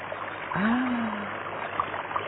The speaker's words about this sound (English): The water in the brooks and the streams flowing and gurgling along joyfully.